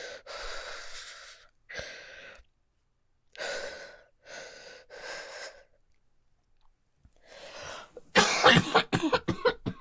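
A series of breathy coughs, with short pauses between them, building to a louder, harsher coughing fit at the end. No one speaks.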